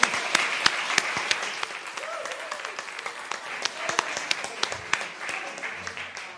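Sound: audience clapping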